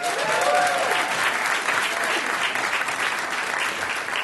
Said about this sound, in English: You can clap.